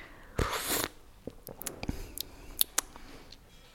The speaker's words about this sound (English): Oh, yeah, and actually, that's what you're supposed to do because you get the most air through the tea, and that's obviously what wakes up your taste buds. Will you demonstrate slurping for us? Yes, I will. So here we are, slurping the tea.